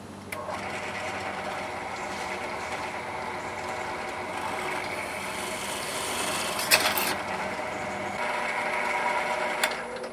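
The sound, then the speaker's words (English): A cheap Harbor Freight drill press motor runs steadily with a droning, whirring hum, broken by a few brief sharp bursts as the bit bites into a case, drilling holes at punched marks through a template for mounting banana jacks. Nobody speaks. “Even a cheap Harbor Freight drill press is better than no drill press, and that's what I'm going to use.”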